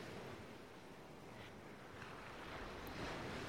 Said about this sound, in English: And now, open your ear holes. Can you hear it? It's the sea. Because you're on a beach.